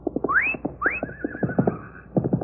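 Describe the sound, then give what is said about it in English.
A horse whinnies twice, shrill rising cries, the second trailing off into a quavering neigh, over a steady rhythm of galloping hoofbeats. “At that distance, I might miss Harney and hit the horse.”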